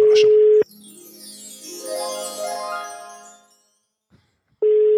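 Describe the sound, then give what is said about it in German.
A loud, steady electronic ringback tone of an outgoing phone call sounds, breaks into a tinkling, chiming melody with sweeping notes, falls silent, then the flat tone returns. No one speaks. “Es klingelt.”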